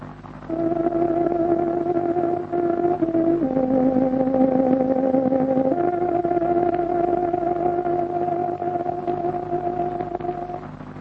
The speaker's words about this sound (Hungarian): Itt a Szabad Európa rádiója, a Szabad Magyarország hangja, a 19, 25, 31 és 41 méteres rövid hullámok. Kedves hallgatóink, pontos időjelzést adunk.